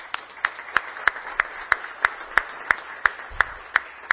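An audience claps in unison, a steady rhythmic beat of about three sharp claps per second over a soft, continuous wash of crowd noise, with no one speaking; at an evening tribute event for the Lions Club.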